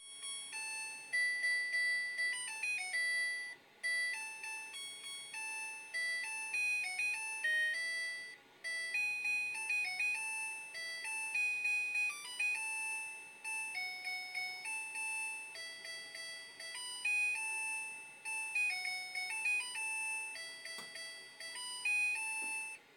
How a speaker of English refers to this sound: So that you just heard is me putting in the sound of our washing machine stopping in post. And it's really long and it's so unnecessary.